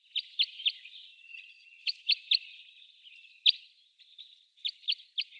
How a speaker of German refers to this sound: Was haben wir denn da? Dann als Jip, Jip, Jip habe ich das geschrieben. Dann war das, was war das noch schnell? Ich habe schon wieder vergessen. Ach, der Kreuzschnabel, natürlich.